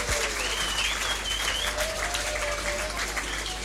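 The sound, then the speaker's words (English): Steady, dense applause from an audience at the show Clues Clique, many hands clapping continuously at an even loudness for the whole stretch, with a few faint whistles or cheers mixed in. “Let's have a big hand.”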